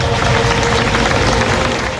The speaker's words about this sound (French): Il y a quelques minutes, la Marseillaise a retenti. Un moment chargé en émotions, suivi d'applaudissements.